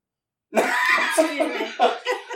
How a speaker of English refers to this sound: You got something in your throat there. I heard that.